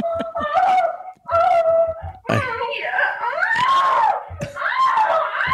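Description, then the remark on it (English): A voice imitates a woman's loud, drawn-out moaning and wailing cries heard at night, rising and falling in pitch across several sustained bursts with brief gaps, intense, ending in higher screaming wails. “I hear moaning. Oh my God. And I start hearing God. Screaming.”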